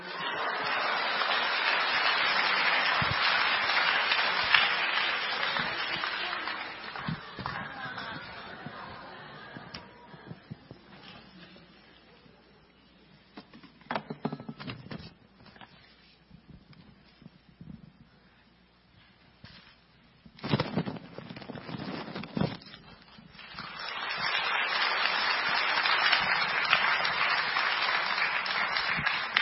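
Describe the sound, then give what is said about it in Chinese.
After a prayer, a church crowd breaks into loud, steady applause to welcome the day's speaker, a pastor. The applause fades out into a quieter stretch of scattered knocks and shuffling, then a second full round of clapping swells up again. “好，接下来让我们用最热烈的掌声来欢迎我们今天的讲员”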